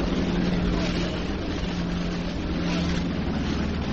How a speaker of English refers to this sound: Subway train goes rumbling along back of the open bleachers behind center field.